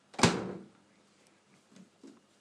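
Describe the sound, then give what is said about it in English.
A home kitchen fridge door shuts with a solid thump that rings briefly, followed by two faint, soft knocks a moment later. No one speaks. “Sound of the fridge.”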